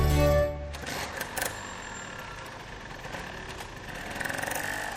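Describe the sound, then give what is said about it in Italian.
A small scooter engine runs steadily as the scooter is being stolen, its buzzing drone holding for several seconds after a brief tonal sound at the start, with no one talking. “ma quel motorino che stanno rubando non è il tuo?”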